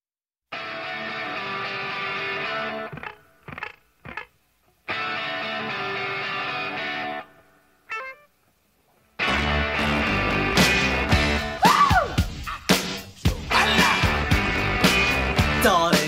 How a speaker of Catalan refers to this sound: I hem trobat una cançó ….